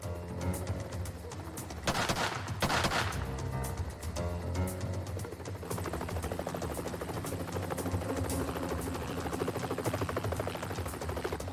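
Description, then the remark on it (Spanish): A helicopter watching over a barn thrums steadily overhead with a rhythmic rotor chop, while a SWAT team sniper's sharp bursts of gunfire crackle early on, loud against the constant engine drone. “Mientras un helicóptero vigilaba al granero desde arriba, los miembros del equipo SWAT tomaban posiciones alrededor del perímetro”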